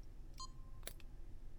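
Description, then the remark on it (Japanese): A key turns in a small lock: a light metallic jingle, then a sharp click followed by a softer second click, over a faint steady background hum. “そして鍵を。”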